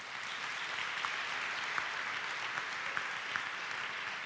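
A crowd claps steadily for several seconds for a man coming up to the front, a dense, even wash of many hands with a few sharper individual claps standing out. No one speaks over it.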